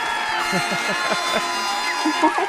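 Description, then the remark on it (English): Studio audience applause for a guest on the radio show Mad Wednesday on Joy: a steady, dense wash of clapping mixed with overlapping cheers and whoops from many voices, holding an even level for a couple of seconds. “A little bit of applause for you.”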